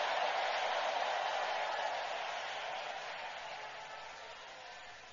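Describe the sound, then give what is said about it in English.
A church audience claps and shouts praise to God in a dense, steady wash of applause, slowly easing off toward the end. “Somebody give the King of Kings and the Lord of Lords a big clap and a big shout of praise.”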